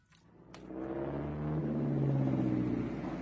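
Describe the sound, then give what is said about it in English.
A Daimler car engine starts low and swells into a steady, throaty rumble, revving up slightly and holding a continuous drone with no voices. “And so I found myself in a mighty Daimler with a forged Frontier pass in my pocket.”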